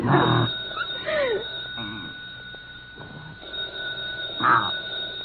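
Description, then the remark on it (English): A telephone bell rings in two short bursts, one at the start and another near the end, with a faint whining, animal-like sound and a steady high tone in between. “Rick, the phone's ringing.”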